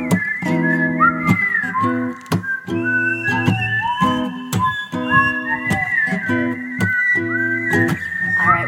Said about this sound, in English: No whistling? I'm nervous. Just try it.